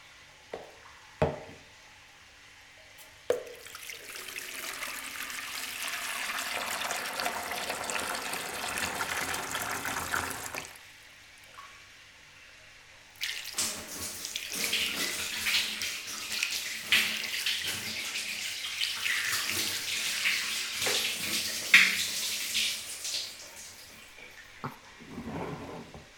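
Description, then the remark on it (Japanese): Warm water pours in two long, steady gushes, a broad splashing rush poured over a person's body during washing, separated by a short quiet pause, with a few soft knocks at the start. “暑くないですか？ぬるかったりもしませんか？”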